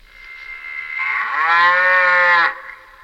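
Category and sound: animal, cow mooing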